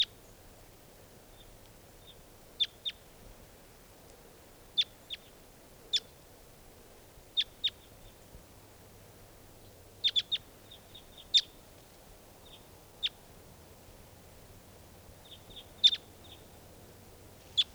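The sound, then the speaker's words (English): Wild birds give short, high, sharp chirps at irregular intervals, sometimes in quick clusters of two or three, over a faint low rumbling background with no voices. “Well, there are three, yeah, just two birds.”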